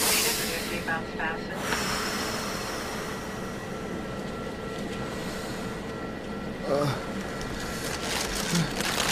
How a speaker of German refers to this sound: Hier, nehmen Sie die Tüte. Oh, danke. Atmen Sie in die Tüte rein und ganz lang ausatmen.